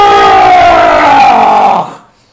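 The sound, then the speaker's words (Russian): A lion roars once, a loud, rough, drawn-out bellow lasting nearly two seconds, its pitch sinking slightly before it breaks off into silence. No talking accompanies it. “Кто это его разбудил? Лев, что он хочет, лев?”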